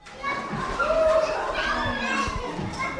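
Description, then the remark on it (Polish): Small children playing in a colourful room full of toys and books at Kindergarten No. 6 in Gori, eastern Georgia, a busy overlapping mix of high-pitched voices, squeals and chatter, steady throughout. “Gdy przyjeżdżam do przedszkola numer 6 w Gori we wschodniej Gruzji, grupa maluchów bawi się właśnie w kolorowej sali wypełnionej zabawkami i książkami.”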